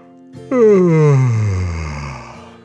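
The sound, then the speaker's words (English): A single long, voiced yawn, starting loud and sliding steadily downward in pitch over about two seconds before trailing off, with no talking around it. “The cardboard box yawned.”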